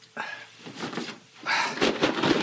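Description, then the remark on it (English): A back door opening: a soft clunk of the latch, then louder rattling and scraping as it swings, with a few sharp knocks near the end. “Your back door?”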